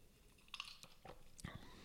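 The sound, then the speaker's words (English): Someone gulps a drink of Robinson's orange barley water cordial with water, a squeeze of lemon and fresh orange, with a few crisp clinks of ice in the glass and low, wet swallowing sounds, all fairly quiet and with no talking. “I can hear the ice... I can hear you gulping.”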